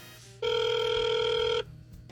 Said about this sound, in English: Can I say right here that any phone gag, one ring is enough. Unless the gag is they're not going to pick up. But if the gag is that there's a phone call in the bit, one is sufficient.